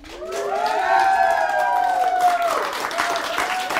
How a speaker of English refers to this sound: and you just feel this wave of love come for the couple. Everybody's cheering and shouting, and that is just a really good moment because I know that I helped create that.